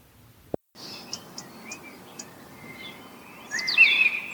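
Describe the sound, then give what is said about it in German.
Birds sing outdoors in the morning in a series of short, high chirps and whistles over a soft ambient hush, rising to a louder, more continuous burst of song near the end. No voices. “Kennt ihr das, wenn ihr morgens aufwacht und euch die Vögel wecken?”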